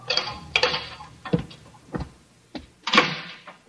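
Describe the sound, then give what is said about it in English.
Several sharp, irregularly spaced footsteps echo along a corridor in a prison death house, followed by a louder, fuller clunk of a door opening. No voices are heard. “Then footsteps sound on the corridor. The door opens.”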